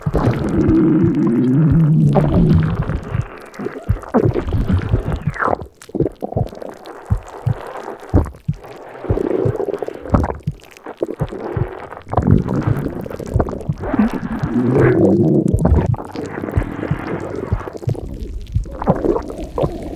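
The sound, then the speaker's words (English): A huge, drawn-out belch, loud, rumbling low and gurgly for many seconds with wet bubbling swells and brief dips before it finally trails off. No one talks. “I almost broke my personal record for biggest burp.”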